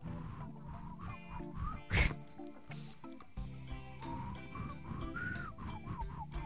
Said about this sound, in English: I can whistle like this too. It's as high as I can get. That's a tongue whistle.